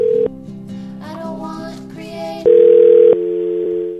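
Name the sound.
telephone dial tone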